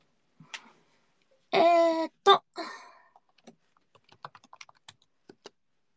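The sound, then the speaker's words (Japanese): Computer keyboard keys clatter in quick, uneven bursts of clicks after a short, bright tonal blip, while the typing game Holo Typing is played, with no talking over them. “ハーチャマのアニメーション MV 作ってる人ね、ロニーさんって、ホロタイピング作った人。”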